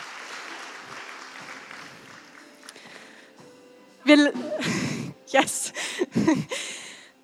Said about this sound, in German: Kommt, gebt unseren Schiri mal einen Applaus. Du hast es sehr, sehr gut gemacht. Vielen Dank.